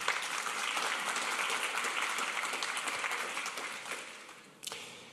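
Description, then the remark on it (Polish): Steady audience applause, a dense wash of many hands clapping at an even level, tapering slightly toward the end with a brief dip and swell, for a woman colonel, veteran of Operation Ostra Brama and Grey Ranks scout, at a ceremony honouring laureates of the 15th Władysław Pobóg-Malinowski competition for best historical debut. “Jeszcze raz brawa.”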